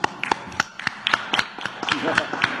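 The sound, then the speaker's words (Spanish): A short burst of scattered applause, a handful of sharp claps at an uneven rhythm, with faint voices murmuring underneath. “Un aplauso.”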